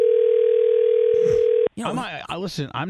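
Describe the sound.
A loud, steady telephone dial tone hums for over a second as a call is placed, then cuts off abruptly as people start talking.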